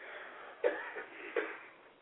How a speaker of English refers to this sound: The studio audience cough in the background.